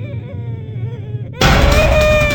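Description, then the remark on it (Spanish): After a low, uneasy drone, a sudden, harsh scream full of pain erupts, loud and raw, holding on as a sustained, strained cry. “Un terrible grito, un alarido lleno de dolor, rompió el silencio hasta llevarme al borde del colapso.”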